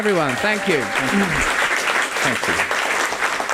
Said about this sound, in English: For the room, round of applause for Graham Hancock.